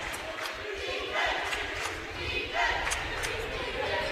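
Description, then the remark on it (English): A basketball crowd roars and cheers for Oscoda steadily for several seconds, a dense wash of many voices with brief shouts rising above it, swelling slightly toward the end. “The crowd finally coming alive for Oscoda here.”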